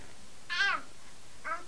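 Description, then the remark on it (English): A cat gives two high, thin meows, the first louder and drawn out, the second shorter and softer, with quiet background noise in between. “Is that the baby cat?”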